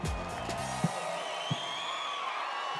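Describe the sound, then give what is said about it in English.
A crowd applauds and cheers steadily as comedian Dion Cole makes his entrance on stage and takes the mic stand, with a few shouted whoops early on and scattered thumps beneath the continuous wash of clapping and voices. “Dion takes the mic stand as the audience applauds and encourages him.”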